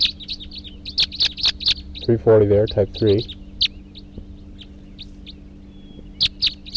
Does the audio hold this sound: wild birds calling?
yes